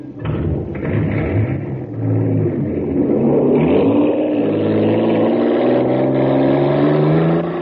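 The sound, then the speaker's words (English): The supercharged Shooting Star, running on super fuel in a jet boat race on Mars, roars and revs up, its pitch climbing steadily as it accelerates hard, loud and continuous for several seconds with a rumbling low end. “Wow, look at the Shooting Star go. Bound to be a winner now because she's supercharged.”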